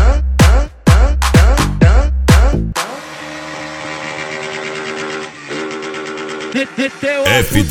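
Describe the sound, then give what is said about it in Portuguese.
A voice imitates motorcycles revving, with about six quick, loud rhythmic bursts, then a sustained buzzing engine-like drone that rises and falls near the end. “A molecada que fica de gandaia aqui com as motos fazendo rangan dan dan dan dan dan dan dan dan dan dan dan trucadona.”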